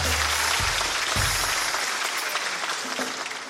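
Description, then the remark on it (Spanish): The audience of the comedy show Hablando Huevadas, at the end of its 'Papelitos del Público' segment, applauds steadily, a dense, even wash of many hands clapping that stays loud throughout, with a few low thumps near the start and no voices standing out. “¡Un fuerte aplauso!”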